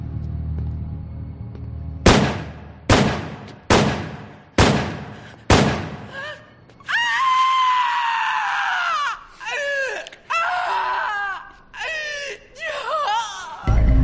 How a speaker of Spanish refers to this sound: A la entrada del lujoso edificio de apartamentos donde vivía, el edificio Dakota de Nueva York, junto al Central Park, aquel admirador le disparó por la espalda. El ex … recibió 5 tiros.